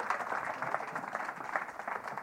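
An audience applauds volunteers, a dense, steady wash of many hands clapping at once, fairly loud and continuous throughout with no voices standing out.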